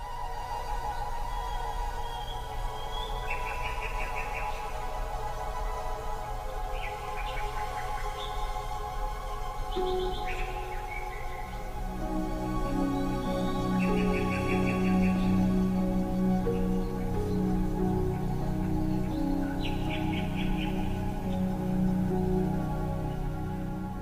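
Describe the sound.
A water whistle, used in place of a recorded nightingale, warbles in short, bubbling birdlike trills like a nightingale, repeating every few seconds over a sustained orchestral accompaniment that swells louder toward the end, in a concert performance of Respighi's Pines of Rome.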